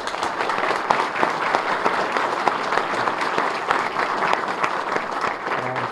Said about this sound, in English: So how about a round of applause for these people?